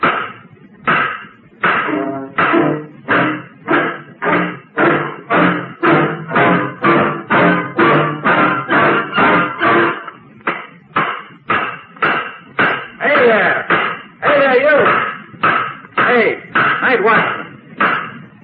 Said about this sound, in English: And he takes the nails in his blunt fingers, and they are single-headed nails. And he begins to put London back together again. Hammering, hammering, board by board, wall by wall.